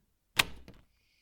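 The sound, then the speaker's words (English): A door is opened for a visitor with a sharp latch click followed by a brief creak and a second softer knock as it swings, fairly loud, then quiet with a faint high hum. “I'll get the door for you.”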